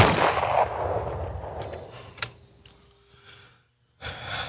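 A loud, booming gunshot opens with a harsh burst that rumbles and fades over a couple of seconds, followed by a single sharper crack, then a brief silence. No one speaks.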